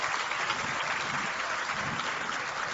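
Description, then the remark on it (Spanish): A crowd claps steadily and loudly for the residents of the Hato del Yaque community, a dense, continuous wash of applause that holds its level for the whole stretch without any talking over it. “Vamos a darle un fuerte aplauso a esta comunidad.”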